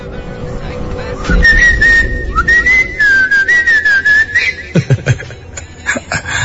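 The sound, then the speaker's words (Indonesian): A person whistles a short, wavering tune, clear over a low background hum, followed by a few scattered clicks and knocks. “Masa setan datang gara-gara denger siulan sih?”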